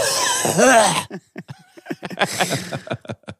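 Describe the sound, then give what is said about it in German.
A loud, exaggerated vocal outburst with a rising whoop, followed by a run of short, sharp bursts like repeated forced coughs or chuckles, imitating a grandfather's loud coughing. “Und dann auch so husten.”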